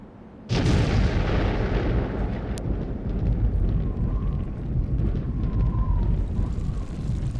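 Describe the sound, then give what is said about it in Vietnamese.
The first atomic bomb, detonated on 16 July 1945 in a remote desert in New Mexico, makes a massive explosion that erupts suddenly after a brief quiet moment. It rolls into a long, loud, deep roaring rumble that persists without fading, and creates a huge mushroom cloud. “Ngày 16 tháng 7 năm 1945, tại một sa mạc xa xôi ở New Mexico, quả bom nguyên tử đầu tiên đã được kích nổ thành công, tạo ra đám mây hình nấm khổng lồ và mở ra thời đại nguyên tử của thế giới.”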